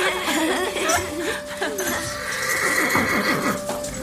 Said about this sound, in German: Jetzt stampft Flecki leicht mit den Hufen auf. Oh, Flecki juckt.